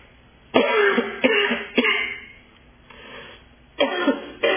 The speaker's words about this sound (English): excuse me a second, I've got this cough coming.